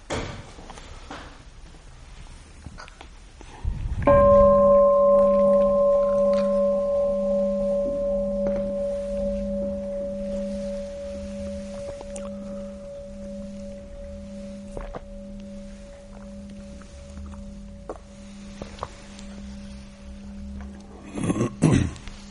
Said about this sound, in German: Dann hören wir noch einmal die Glocke und dann erzähle ich noch ein bisschen was, um das rumzumachen.